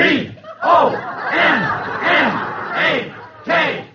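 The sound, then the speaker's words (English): A big football game crowd roars and cheers wildly after a field goal is kicked from the 16-yard line in the last minutes of the game, many voices yelling at once in loud, swelling waves that barely dip before surging again. “I kicked a field goal from the 16-yard line. The crowd went wild.”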